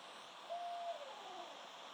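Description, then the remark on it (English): A single steady owl hoot sounds for about half a second, followed by a fainter trailing note, over a constant hiss of background noise. It is quiet, with no voices. “That's an owl, I think. That's an owl.”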